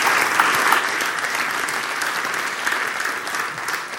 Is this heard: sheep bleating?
no